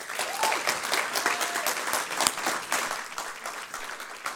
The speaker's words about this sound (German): Also lasst uns einen fetten Applaus geben für Walt.